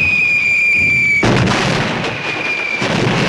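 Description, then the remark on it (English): A thin, steady high whistle gives way to a sudden loud artillery shell explosion by a trench. A roaring, crackling rumble follows as smoke rises and dirt pelts the soldiers, swelling again briefly near the end. No one speaks. “As smoke fills the air above the trench, more dirt pelts the soldiers.”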